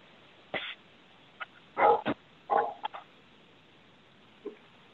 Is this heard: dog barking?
yes